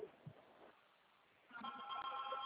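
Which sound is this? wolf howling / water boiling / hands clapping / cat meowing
water boiling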